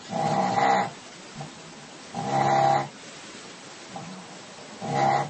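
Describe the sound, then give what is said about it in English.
A dog snores, three loud, rasping breaths at slow, regular intervals, each about a second long, with a steady low hiss in between and no talking. “This is actually one of my dogs. This is Thor snoring”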